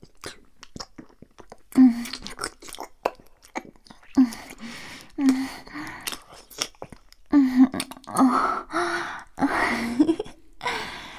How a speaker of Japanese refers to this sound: このまま舐めるから気持ちよくなろう。